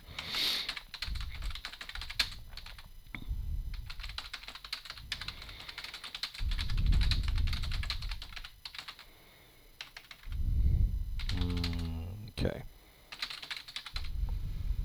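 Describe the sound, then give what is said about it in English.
Rapid, irregular clicking of fingers typing out the word "miscellaneous" on a computer keyboard, fairly loud, in uneven bursts with short pauses, over low rumbling background noise. “Make me type out miscellaneous.”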